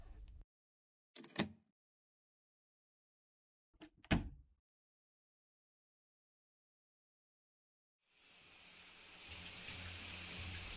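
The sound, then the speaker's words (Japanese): A few short knocks and rustles with pauses between, then a shower in an internet cafe bursts on with a steady hissing spray of water that keeps running to the end. “うわぁ、シャワー気持ちいい。”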